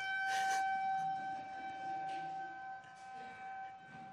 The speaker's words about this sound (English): We always know when that whistle blows, nobody can hear. So I'll see if it comes back.